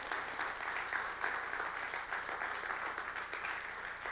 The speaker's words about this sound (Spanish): Si usted está agradecido, levántele un fuerte aplauso al Señor.